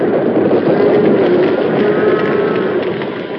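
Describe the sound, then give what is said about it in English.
A loud, steady rumbling roar of stampeding longhorn cattle charging toward three men standing with their backs to a wall, a dense, continuous thunder of hooves with no distinct beats, holding strong throughout and easing only slightly at the end. No voices. “To the three men standing with their backs to the wall, the longhorns seemed to hurl their massive bulks forward for the kill.”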